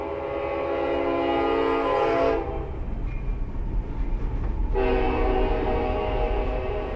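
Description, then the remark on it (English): A freight train on the Union Pacific Railroad main line in Hays, Kansas, rumbles past beside the Midland Marketing cooperative's main location, its horn blaring in two long, loud blasts separated by a brief gap, with heavy rolling rumble continuing underneath throughout. “The main location sits right next to the Union Pacific Railroad's main line in Hays.”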